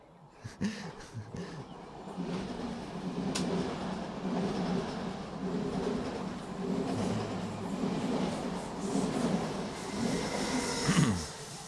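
A train rumbles steadily along the rails with a low, continuous roar, occasional clicks and a brief metallic screech near the end, with no voices.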